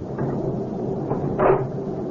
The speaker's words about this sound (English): Honey, will you get the door closed and locked?